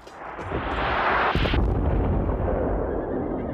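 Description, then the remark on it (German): Prussian cannons firing without pause, with shells landing on the Danish Dybbøl redoubts about every 3 seconds, make heavy booms and blasts that roll together in a loud, continuous rumble, with one sharp impact standing out near the middle before the thunderous din carries on undiminished. “Ab 4 Uhr morgens schossen die preußischen Kanonen ohne Pause.”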